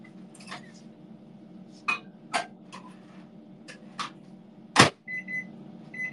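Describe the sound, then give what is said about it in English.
A microwave oven hums steadily, with scattered clicks and clunks of handling, then a short electronic beep sounds near the end. “Got the microwave ready.”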